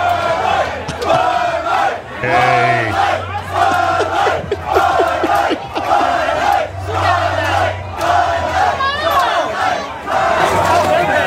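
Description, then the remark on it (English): A large crowd in Lakeland cheers and shouts in loud, sustained celebration as a Budweiser promotional refrigerator is opened, many voices overlapping in excited whoops and yells, with a low steady hum running beneath the roar throughout. “Everyone in Lakeland having the time of their life.”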